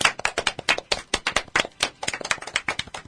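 A few people clap in a quick, steady burst of sharp, crisp hand claps lasting about three seconds, moderately loud and with no voices over it, in the studio of a live broadcast on Comiten Community Radio Tenjin in Chuo-ku, Fukuoka, marking the show's 394th broadcast.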